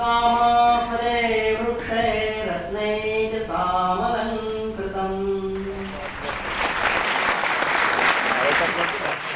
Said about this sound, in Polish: Publiczność oklaskiwała przedstawienie na stojąco. Dziękowała Januszowi Wiśniewskiemu za całość, Jerzemu Satanowskiemu za muzykę, Emilowi Wesołowskiemu za choreografię. Dziękowała aktorom.